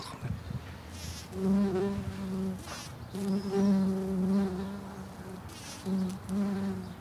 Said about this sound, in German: es tut da ziemlich wild rumsummen und surren. Was sind das für Viecher, die da jetzt auf diesen Pflanzen rumfliegen? Es sind also verschiedene Wildbeinarten.